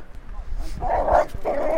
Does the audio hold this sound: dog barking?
yes